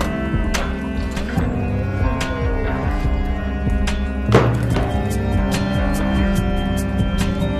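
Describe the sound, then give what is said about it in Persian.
At a cattle farm, a butcher's cleaver chops meat in sharp, irregular thwacks, about a dozen strikes spaced a second or so apart, with one heavier blow midway, all over a steady low hum. “فری داره قصابی میکنه.”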